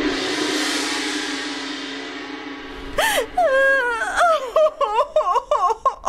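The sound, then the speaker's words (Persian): A queen cries loudly because everyone in the palace has been shaved bald, starting with a long, drawn-out wail that breaks into a run of short, gasping sobs. It follows a few seconds of steady background hiss, with no speech. “الهی من برای تو بمیرم، الهی من تکه تکه بشم، مرگ من، خواهش میکنم گریه نکن ملکه جان.”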